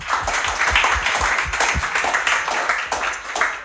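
An audience applauds to welcome a Guardian journalist as a speaker, with a steady, dense patter of many hands clapping, moderately loud and sustained throughout, with a few individual claps standing out in the mix.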